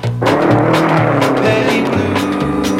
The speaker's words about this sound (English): Gentlemen, start your engines.